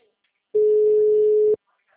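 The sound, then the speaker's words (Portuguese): A telephone dial tone sounds once as a steady, unwavering hum lasting about a second, loud, then cuts off abruptly into near silence. No one speaks over it. “telefone.”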